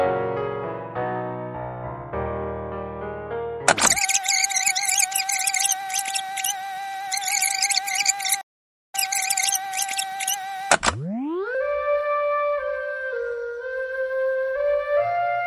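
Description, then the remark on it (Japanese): A whistle that was used for a birthday celebration plays a tune of stepped notes, shifts into a busy, shrill run broken by a brief silence, then ends on a note that swoops upward and holds steadily. No one speaks. “お誕生日記念に使った笛の音ですね。”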